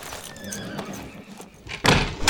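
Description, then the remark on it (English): A horse whinnies, a wavering, high-pitched call lasting over a second, followed by a couple of louder, sharp bursts of noise near the end. “Well, I'm staying out here with the horses where it's safe.”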